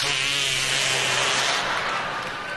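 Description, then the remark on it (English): A long, buzzy armpit fart made with a hand, a single sustained loud flapping rasp with a low drone that holds steady for a couple of seconds before fading slightly. “Or as we called it in New York, the artificial fart under the arm!”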